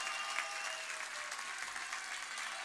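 A crowd claps steadily, a dense, even patter of many hands that holds at a constant level for a few seconds with no voices over it.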